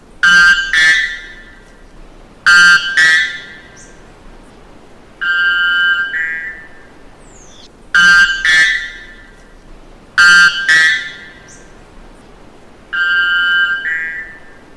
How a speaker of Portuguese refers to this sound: Em 2019, a araponga da Amazônia entrou para o livro dos recordes, com o canto mais alto do mundo.